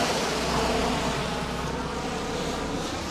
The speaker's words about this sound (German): So, jetzt müssen wir aufpassen. Jetzt kommt ein LKW. Genau, das sind diese schwarzen, die man immer häufiger sieht, ne? Ja, die Elements-LKW.